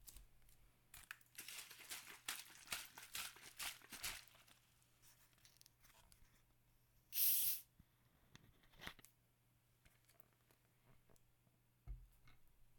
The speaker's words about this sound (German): Das war eine kleine Wasserflasche, die habe ich geschüttelt und habe ich die aufgemacht.